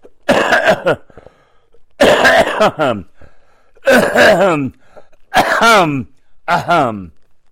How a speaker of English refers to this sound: You see, that's what I've been dealing with. And my wife says, "You're loud." And I am. When I'm coughing. So sorry about that.